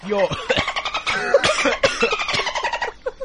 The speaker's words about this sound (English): Why are you coughing like this? Do you have TB? I got like an itch in my throat.